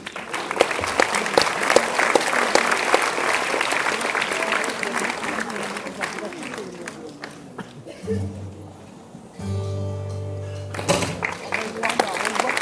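A large audience claps loudly and steadily for several seconds before a choir concert opens, a dense wash of hands that fades as sustained musical tones briefly rise, then clapping swells again near the end.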